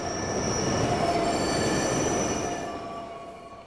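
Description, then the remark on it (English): A subway train arrives at Namba Station with sustained high-pitched wheel squeals over a loud, steady rumble, the screeching tones holding and shifting before the noise eases off at the end. No one speaks. “The train arrives at Namba Station, where I need to change for the underground.”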